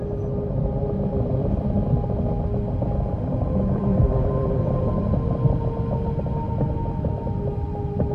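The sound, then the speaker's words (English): Ice of the Vatnajökull Glacier creaking and groaning, a steady low rumble threaded with drawn-out tonal moans and faint cracks, continuous and fairly loud throughout with no voices. “the Vatnajökull Glacier.”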